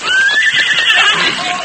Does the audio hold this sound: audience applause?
no